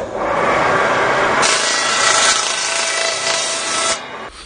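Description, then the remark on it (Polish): A saw cuts through pine wood with a steady, harsh rasping hiss that grows brighter and more intense partway through, then drops off abruptly near the end. No one speaks. “jakbym go puścił, żeby pan tu mógł nagrać zapach żywicy, to puszczę na piwę i będzie zapach żywicy z tego drzewa.”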